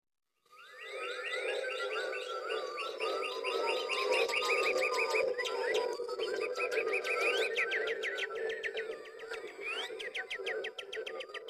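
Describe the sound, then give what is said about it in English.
A playful nonsense song of lively, jumbled bird chirps, whistles and sweeping trills, fairly loud, pouring out continuously over a steady low hum with no talking. “This is a song, you'll hear it, it's called Ostrich and Chirping.”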